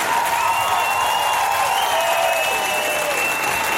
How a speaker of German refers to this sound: nochmal ganz herzlichen Applaus.